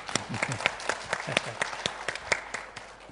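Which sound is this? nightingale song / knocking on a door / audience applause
audience applause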